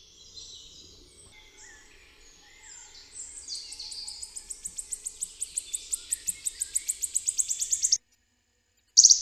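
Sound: wood warbler song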